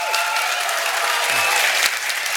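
A crowd claps steadily to vote for which of two stories to hear, a dense wash of many hands sustained at an even level for a couple of seconds, with no one speaking over it.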